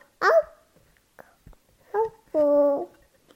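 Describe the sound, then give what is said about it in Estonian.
A voice imitates a dog barking: a short, bright yelp, a quieter bark-like sound, then a longer drawn-out woof, all fairly loud with pauses between. “Haugub, ei hingelda, muidugi. Kutsu teeb auf, auf, siis ta läheb ka keel välja suust, jah.”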